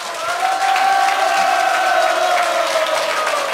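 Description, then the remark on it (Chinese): A large audience bursts into sustained applause mixed with loud cheering and whoops, a dense, steady wall of crowd noise that holds at full volume for several seconds. “觉得这个长枪理论对自己有帮助的请热烈掌声鼓励一下。”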